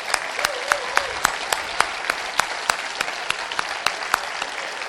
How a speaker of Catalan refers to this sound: Però sobretot a la gent de Sitges, que ha sigut l'autèntic protagonista. Un aplaudiment per tota la gent de Sitges.